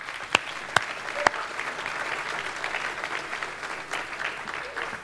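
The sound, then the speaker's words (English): An audience breaks into steady, sustained applause, a dense wash of clapping that holds at an even level throughout, with a few sharp, louder claps standing out near the start, given as a round of applause for a new staff member starting work. “And actually, look, a round of applause seems appropriate to me.”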